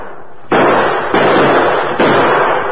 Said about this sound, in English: The addition of Kit Carson's musket to the Lone Ranger's well-placed gunfire soon had a telling effect.